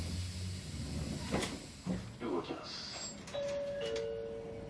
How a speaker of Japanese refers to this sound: ドアが閉まります。ご注意ください。